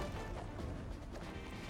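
A sustained explosion rumbles throughout, a dense, noisy roar heavy in the low end that holds steady without fading, with no voices present.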